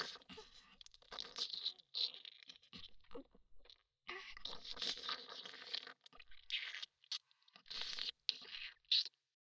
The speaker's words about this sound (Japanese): どうでしたか？下品な水音に合わせてしごくのハマっちゃいましたか？